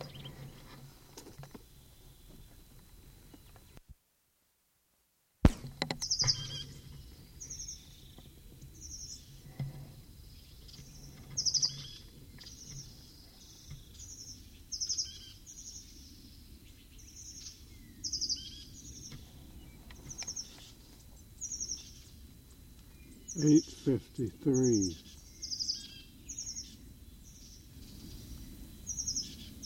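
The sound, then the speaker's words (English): A bird calls over and over outdoors, each call a short, high chirp repeated at a fairly steady pace of about one per second, above a low, rumbling background with a few soft thumps. “8:44, same bird.”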